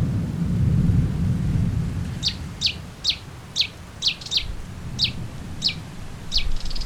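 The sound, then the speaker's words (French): A bird calls in a series of about ten short, sharp chirps at a steady rhythm, clear, over a low rumbling background like thunder as a storm passes. “Il y a un oiseau là, on dirait qu'il me suit.”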